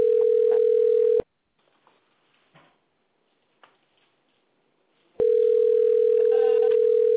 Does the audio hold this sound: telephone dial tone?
yes